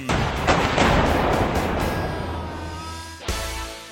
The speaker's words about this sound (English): this night will end with BFH. Bus fare home? No, bazookas firing haphazardly. Look how many are aimed at him right now.